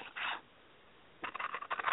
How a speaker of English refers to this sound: That's a long piece of paper you cut. Oh, you can hear it?